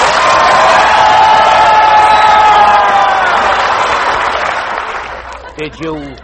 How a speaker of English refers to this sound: Did you hear that, Von Zell? Sure, sure. They always applaud when they hear my name.